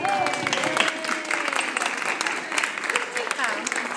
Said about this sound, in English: I think they all deserve a clap.